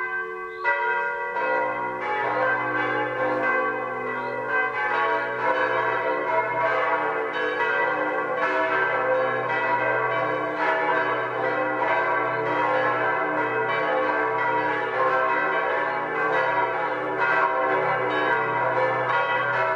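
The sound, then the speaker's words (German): Several church bells of the Upper Bavarian municipality of Übersee, Germany, ring together the 12 o'clock midday peal, their overlapping tones sustained and steady throughout with no voices, a dense resonant wash of clanging strokes. “Das Mittagsläuten kommt heute aus der oberbayerischen Gemeinde Übersee.”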